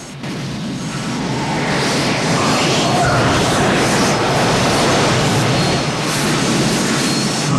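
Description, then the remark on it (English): A rocket sled carrying a man in a chair roars as it spins round careering along a vacuum pipe, a loud, steady rushing blast that holds constant throughout, with no voices. “sled spins round in the pipe as it careers along.”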